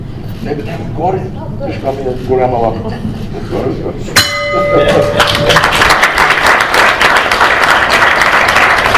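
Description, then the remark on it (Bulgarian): A single bright bell strike rings out with a lingering tone after a few seconds of murmured talk, rung to open the second day of a forum at the University of National and World Economy; loud applause swells up right after it and continues to the end. “Благодаря и на нея за присъствието, благодаря на вас за участието и ще я помоля да открием втория ден на форума, денът на изпълнителната власт, с нашия звънец.”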